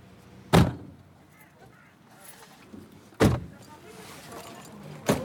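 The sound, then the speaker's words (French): Three sharp car door slams at irregular intervals, with faint shuffling and background bustle between them as people all change cars. “Ils sont en train de changer tous de voiture.”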